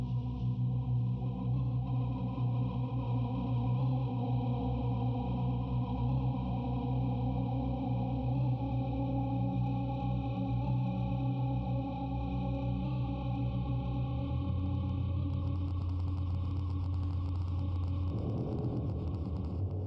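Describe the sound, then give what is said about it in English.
A dark, noisy Hertz Donut synthesizer drone with gritty phase distortion and FM, holding steady low tones under a hissy upper band, with a shift in pitch near the end; no voices. “Get a mix of Hertz Donut going there too, just something dark and noisy.”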